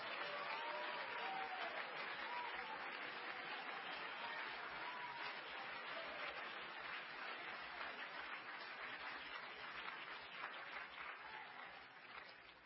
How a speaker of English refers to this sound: Oh, we ought to clap our hands and thank God for the message.